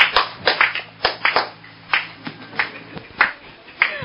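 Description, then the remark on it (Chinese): Sparse, uneven applause from an audience welcoming a speaker: a dozen or so sharp handclaps scattered over about four seconds, irregular in rhythm and moderately loud, with a faint low hum underneath and no one talking. “好，今麦大家以热烈掌声来欢迎苏神来。”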